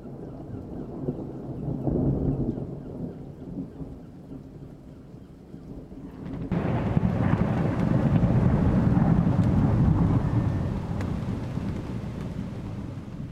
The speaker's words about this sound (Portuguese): A chuva começou a ficar mais forte e no céu começou um barulho muito intenso. Eram raios e trovões.